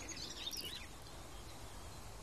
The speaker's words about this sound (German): mäßige Qualität des Mikrofons plus den Wind plus meine Stimme und dann 2 Vögel gleichzeitig. Also 2 Arten gleichzeitig, mehrere Individuen gleichzeitig.